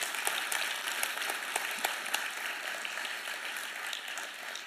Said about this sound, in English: And yes, some of you started to applaud him, and that would be appropriate.